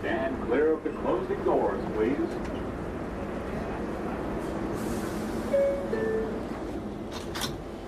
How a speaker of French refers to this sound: Mais pour aujourd'hui, je vais plutôt prendre le métro.